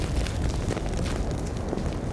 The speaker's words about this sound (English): What an ominous sound. Listen. It sounds like a jet airplane up there, but that is fire being pushed by the wind.